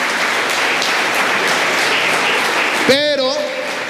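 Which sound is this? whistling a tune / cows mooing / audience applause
audience applause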